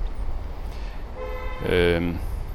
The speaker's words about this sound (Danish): Kører færdselspolitiet ud foran mig her. De har lige været ude og give nogle ret store bøder, tror jeg.